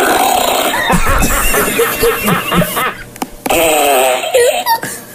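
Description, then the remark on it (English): A loud fart sound effect played on a soundboard: a long, sputtering, rhythmic blast with wavering pitch that briefly breaks off, then resumes with sliding, squeaky tones to the end. “What's your favorite fart sound?”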